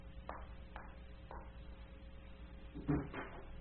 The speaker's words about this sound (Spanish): Brenda cerró la puerta a sus espaldas y se detuvo pensativa.